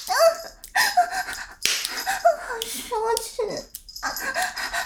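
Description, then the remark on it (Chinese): A woman imitates a dog with a series of short, yelping barks and whimpers, fairly loud, mixed with brief bits of speech. “怎么听到姐姐狗叫更兴奋了呀？”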